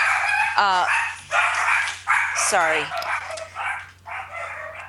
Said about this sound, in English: Sorry about that. That's my little dogs.